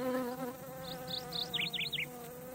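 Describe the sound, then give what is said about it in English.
A steady, droning buzz of bees that were left out of a box flying all round a funny hat hums without pause, with a short run of high, quick chirps flickering over it near the middle. “Some of the bees were not in the box. They flew all round Nana's funny hat.”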